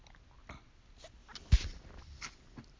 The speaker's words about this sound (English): That took me a sip of my tea here. I want to try to keep my voice pretty strong.